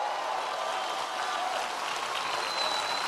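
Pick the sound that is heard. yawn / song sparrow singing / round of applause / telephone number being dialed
round of applause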